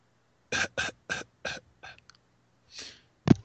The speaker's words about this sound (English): I can talk about it while you're coughing.